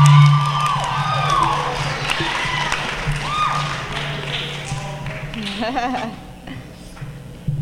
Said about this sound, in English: Gracias, gracias. Thanks. Just keep clapping, guys. Just keep clapping.